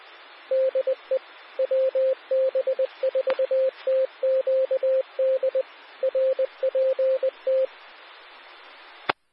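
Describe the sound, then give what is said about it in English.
A single-pitched radio tone keys on and off in quick, irregular beeps, like Morse code, over a steady bed of static hiss; the tones are left on air on the Central Carolina Sky One severe weather radio net. It stops abruptly and ends with a sharp click. No voices. “I'm going to leave the tones up for just a couple of minutes in case someone has a damage report.”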